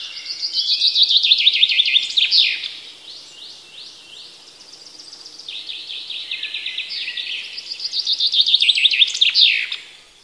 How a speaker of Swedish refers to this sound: Med våren kommer nya röster. Bofinken.